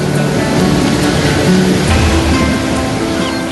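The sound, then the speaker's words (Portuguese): A steady, loud wash of surf, with the roar of sea waves rolling onto a beach in Australia. The noise is continuous, with no distinct breaks and no voices. “O sol acende o mar em tons cintilantes e a praia emerge como a moldura do continente.”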